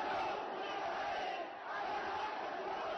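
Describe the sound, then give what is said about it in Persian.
Hundreds of thousands of Yemenis in the central square of Saada province, Yemen, chant slogans in unison in support of Palestine and against America and the Zionist regime. It is a dense, loud roar of many voices that carries on steadily with only a brief dip midway. “میدان مرکزی استان سعده شاهد حضور صدها هزار یمنی بود که شعار حمایت از فلسطین در برابر آمریکا و رژیم صهیونیستی سر می‌دادند.”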